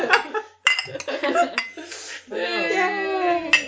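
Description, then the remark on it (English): Glasses clink together several times in quick, bright taps as a toast, mixed with cheerful voices and a drawn-out vocal sound near the end. “Cheers to us. To the last episode.”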